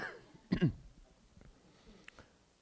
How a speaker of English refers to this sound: I just coughed